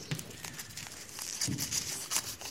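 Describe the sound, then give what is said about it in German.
Paper rustles and crinkles in a steady run of crisp little crackles as small crumpled paper balls, thrown during a school lesson, are pulled open and flattened, with no voices. “Als er die auseinanderfaltet, gucken ihn lauter böse Gesichter mit finsteren Grimassen an.”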